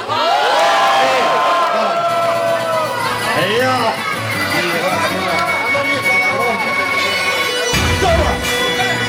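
A concert crowd cheers loudly and steadily, a dense wash of overlapping shouts, whoops and high-pitched cries that holds throughout, with a fresh surge of noise near the end.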